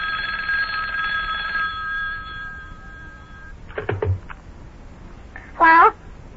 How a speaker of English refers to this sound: Uh-oh, telephone's ringing again. I'll get it. It's probably for me.